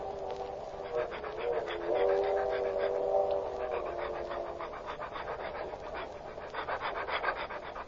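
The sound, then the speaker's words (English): A dog, Checo, pants steadily in quick, rhythmic breaths, with some faint whimpering tones mixed in, continuing for several seconds without any talking, while being walked on a leash down the aisle of a car. “You were going down the aisle with your dog?”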